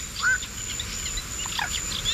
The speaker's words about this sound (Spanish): Hay más pájaros.